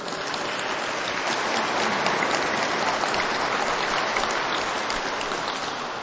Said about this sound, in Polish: Naszej modlitwie i naszemu spotkaniu towarzyszyć będzie schola. Witamy ich bardzo serdecznie i brawa dla naszych artystów.